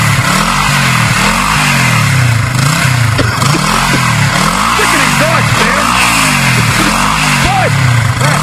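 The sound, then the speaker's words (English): A loud Harley-Davidson Softail Standard motorcycle engine rumbles steadily, its deep idle swelling in repeated rev surges about once a second, with faint voices partly buried beneath the engine noise. “Oh, a Harley, huh?”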